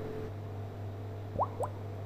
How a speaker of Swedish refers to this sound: Oj, det där som du hörde nu var hur fermenteringsprocessen för den här surkålen i den här stora keramikbyttan kom igång. Och de här bubblorna visar alltså att här fungerar allt som det ska.